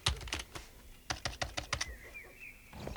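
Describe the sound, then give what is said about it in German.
Bursts of quick, crisp keystrokes on a computer keyboard as someone enlarges the picture of Celia Barrow on the screen, a short flurry then a faster run of clicks, followed by a faint rising electronic whine with no talking. “Doch, jetzt lass mich mal an den Rechner, damit ich das Bild von Celia Barrow vergrößern kann.”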